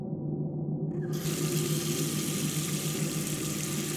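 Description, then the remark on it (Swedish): A bathroom tap turns on after a moment and cold water runs steadily into a sink for rinsing the face, a continuous hissing splash with a low hum beneath it. No one speaks. “Gick jag in till badrummet för att skölja ansiktet med kallt vatten för att vakna till.”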